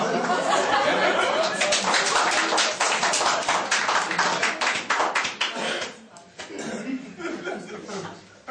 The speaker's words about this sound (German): Applaus gerne, aber wenn dann nach jedem Satz kommt, stört es trotzdem die Debatte.